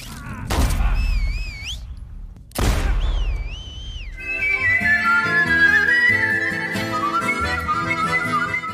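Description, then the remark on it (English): Two warbling whistles from video game enemies answer each other in turn, each opening with a loud burst of noisy impact; the enemies whistle to alert, identify and track the player. Then a dense game-style musical score swells and carries on to the end. “Their secondary language comes up as whistles to alert and identify and track and terrorize you throughout the game, just whistling and re-whistling back and forth like the only thing they have ever had a chance to watch was a master whistler”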